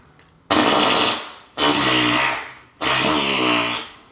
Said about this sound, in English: Yeah, I agree with the wet fart.